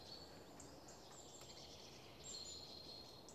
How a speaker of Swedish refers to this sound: Vad hörde du mera? Bofink där.